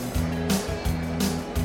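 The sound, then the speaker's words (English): A stolen Maverick car's engine drones loudly with a deep, steady rumble, surging in brief repeated bursts of revving as it is started up and pulls away, prominent with no voices. “After that, he then jumped into the stolen car and started up the motor.”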